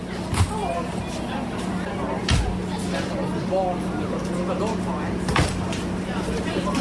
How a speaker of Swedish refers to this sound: Det är en stor buss med bagageutrymme på sidan av bussen där chauffören slänger in väskorna.